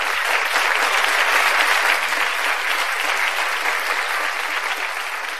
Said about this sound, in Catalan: Rebem, doncs, amb un fort aplaudiment,